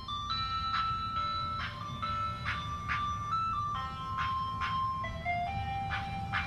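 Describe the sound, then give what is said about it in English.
An ice cream truck plays its tinkly, looping jingle, a bright chiming melody of steady repeating notes over a low rumble of engine and traffic, continuous. “What's that? The ice cream truck. It's following me.”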